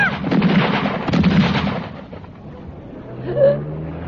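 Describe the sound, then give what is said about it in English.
Rapid, crackling gunshots fired from a car by a masked man come in two loud, dense bursts over the first two seconds, then fade into a low rumbling hum with a brief higher tone. “Oh, my God, I'm shot.”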